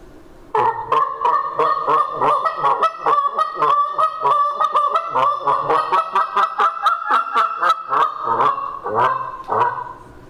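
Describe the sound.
A rapid, continuous series of high, nasal snow goose honks imitated on a handheld mouth call, loud, with a steady rhythm for about ten seconds and no talking.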